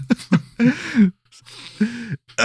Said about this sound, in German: Husten.